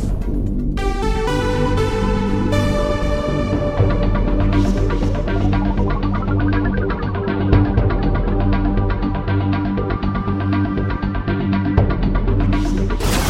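A loud, steady instrumental jingle for a radio weather segment, with dense sustained synth chords, a rising-then-falling sweep in the middle and a bright flourish near the end. No voices.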